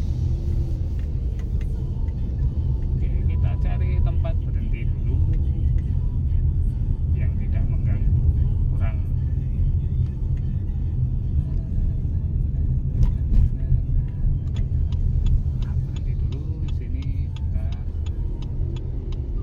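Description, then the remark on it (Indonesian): Steady low engine rumble of a vehicle driving along a narrow truck route in Banyuwangi, constant, with faint intermittent ticks and clicks from the cabin and occasional muffled voices underneath. “Dan ini saya lewat jalur truk di sini yang agak sempit, jadi saya bisa berhenti nanti.”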